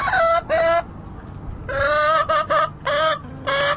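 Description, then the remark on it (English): Three backyard chickens at a townhouse in Washington, D.C. cluck loudly in a run of short, overlapping bursts with a few brief pauses, over a low outdoor rumble. No one speaks. “not everyone in Washington thinks chickens will make good neighbors.”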